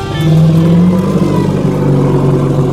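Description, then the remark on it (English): An elephant waiting in a town square gives a low growl: a deep, steady rumbling tone that holds for a few seconds with a slight rise and dip in pitch, fairly loud and heard alone without any talking. “They continued to squabble as they walked, until they heard a low growl ahead of them.”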